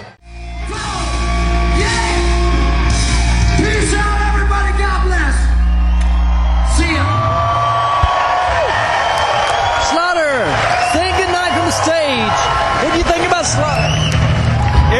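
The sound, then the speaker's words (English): A loud, sustained crowd at a show roars and cheers as the performer says goodnight, the crowd on their feet, with scattered high-pitched whoops and yells rising above a steady wall of noise throughout. “And got the crowd on their feet.”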